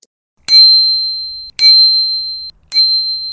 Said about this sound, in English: That's a bell on a bicycle. If there was no bell on the bicycle, it might run over us if we'd not jumped out of the way.